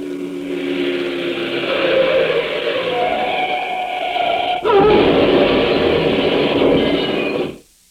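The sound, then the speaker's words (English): A steady mechanical roar builds with strained, whining tones, then a sudden loud car crash at about the midpoint is followed by a few seconds of clattering, grinding noise before it cuts off. “Lately, you've been hearing that sound more frequently. Traffic accidents in the United States are increasing to an alarming extent as our automobiles grow older.”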